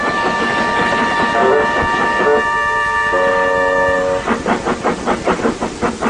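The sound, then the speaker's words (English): A steam engine works, a sustained whistle-like tone ringing over rumbling rail noise before it settles into a quick, even series of chuffs as it pulls loaded freight cars to a siding and pushes the empties to the chute. “Oliver pulled some loaded cars to a siding and pushed the empties to the chute.”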